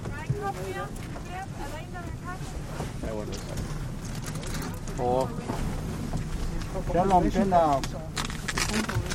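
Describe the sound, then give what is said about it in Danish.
A small boat's motor drones steadily beneath gusting wind buffeting the microphone, while voices talk over the constant noise of the sea; the boat is out on the icy Arctic sea collecting algae and water fleas for a monitoring project, with two whalers aboard watching the ice and wind. “Vi er i en lille båd ude på ishavet for at samle alger og vandlopper til monitoreringsprojektet”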